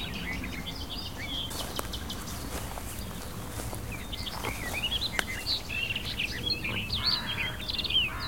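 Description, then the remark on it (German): Crows that are nesting somewhere nearby call outdoors, a scattering of short, fairly faint calls repeating irregularly over steady background ambience, with a few soft rustling or stepping sounds and no talking. “Das sind unsere verrückten Krähen, die hier neuerdings, die müssen hier irgendwo in der Nähe brüten, die hier ihren Schabernack treiben und viele Alarme auslösen als klassische Nesträuber.”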